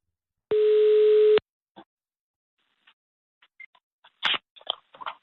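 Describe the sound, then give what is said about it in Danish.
A single steady telephone ringing tone sounds for about a second, loud, as a call is placed on Radio 24/7 to a 29-year-old man, then gives way to quiet with a few faint clicks and rustles. “Og nu ringer jeg til ham for at høre, og også lidt konsultere ham med hans karriere.”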